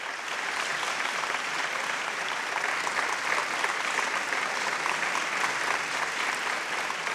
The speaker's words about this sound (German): Oh, Achtung! Ich höre schon den Beifall. Das Konzert ist zu Ende.